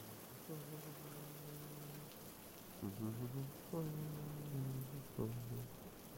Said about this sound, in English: In case you haven't noticed, I'm taking a shower.